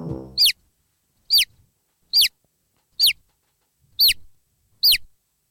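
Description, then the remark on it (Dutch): A chick peeps six times at a steady rhythm, each call a short, high, downward-sweeping chirp with silence between, after a brief low rumble at the start. “Schattig hè, zo'n kuikentje.”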